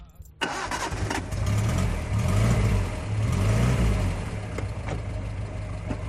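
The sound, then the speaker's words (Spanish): A small SEAT 600 car engine starts abruptly and revs up and down in a few rising and falling surges, then settles into a steady idle, with no talking. “Fíjate cómo sonaba el coche que cambió un país entero.”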